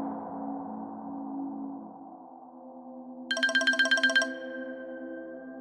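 A bright electronic phone ringtone trills for an incoming call from an unknown caller, in a quick burst of about ten rapid pulses lasting roughly a second. It follows a soft sustained musical tone and fades into a lingering note.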